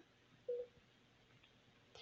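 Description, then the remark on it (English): A heart monitor gives a single short, mid-pitched electronic beep over a faint steady hiss, followed near the end by a brief burst of rustling noise. “All it fucking does is beep.”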